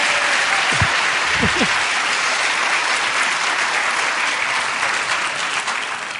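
An audience breaks into steady applause after a Bible reading, a dense wash of clapping that holds at full strength for several seconds before starting to thin out near the end.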